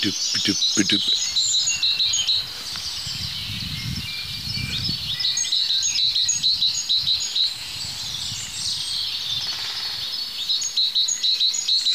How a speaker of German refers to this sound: Dahinter die Kohlmeise.